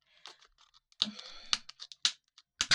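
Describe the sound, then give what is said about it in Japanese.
Crinkling and snipping as scissors work at plastic packaging to open a package, a series of sharp, irregular clicks and rustling bursts with short pauses between them, no voices. “ちょっと開けますよ、開封。ハサミでね。”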